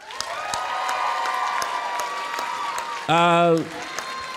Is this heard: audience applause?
yes